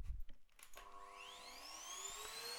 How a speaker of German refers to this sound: Oh, jetzt kommt auch noch meine Mutter mit dem Staubsauger rein.